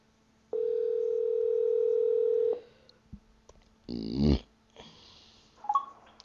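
A single steady electronic ringing tone of an outgoing mobile phone call placed through Siri holds for about two seconds, fairly loud, followed by a few brief rustling noises and a short burst of sound.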